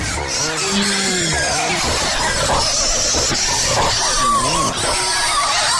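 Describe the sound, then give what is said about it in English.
A hog nicknamed El Chapo, one of the hogs that dug up the product, squeals and grunts nonstop for several seconds, loud and harsh, its high squeals bending up and down over a few lower grunts near the start. “Police have caught up with with El Chapo. Yeah. Oh, right. Pig El Chapo. Yeah. And ask the pig for a comment.”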